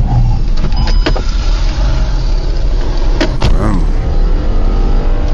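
A motorcycle weaves through road traffic during a chase, slipping between a GAZelle van and a passenger car, its engine a loud, continuous roar over dense traffic rumble, with a few brief knocks and passing whooshes.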